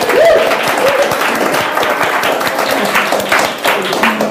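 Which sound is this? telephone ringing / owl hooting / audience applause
audience applause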